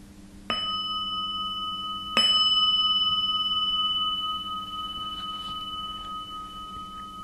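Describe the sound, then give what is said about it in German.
A meditation gong is struck twice, the second strike slightly louder, each leaving a clear, steady metallic ring that hangs in the air and slowly fades over several seconds. “Bleibe bei dem Bild und insbesondere auch bei deinen Emotionen, auch nach dem Gong.”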